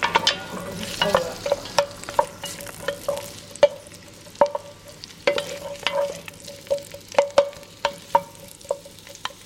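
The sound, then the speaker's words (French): Onions fry in a pan with a steady sizzle while a utensil stirs them, making frequent sharp taps and scrapes in an uneven rhythm over a faint constant hum. No one speaks. “Donc je fais revenir les oignons.”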